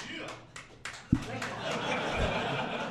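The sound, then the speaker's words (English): An audience breaks into applause to vote for Monster Hunter World as their Game of the Year pick, a dense patter of many hands clapping that swells and holds steady, mixed with crowd murmur and a few sharp individual claps. “Who wants to applaud for Monster Hunter World?”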